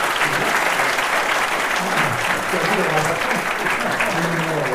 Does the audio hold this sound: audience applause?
yes